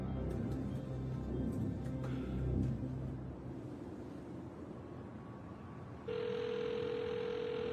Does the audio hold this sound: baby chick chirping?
no